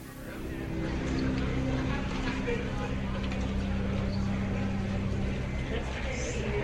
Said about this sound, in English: I can also make it sound like I'm in some place, like this one is at an airport gate. That works quite nicely.